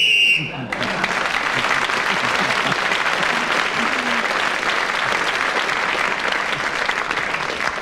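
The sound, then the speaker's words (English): A short, shrill whistle blast ends a timed round, then is swept away by loud, sustained applause from a large audience that continues steadily to the end. “Just got his joke in before the whistle went.”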